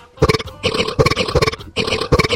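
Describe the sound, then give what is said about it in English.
A quick run of two pitched burps made into a little song and run through an auto-tuner into a robotic melody, several short bursts in a choppy rhythm with a metallic, warbling tone, loud. “Those are the two burps I made into a little song there. And here it is run through the auto-tuner.”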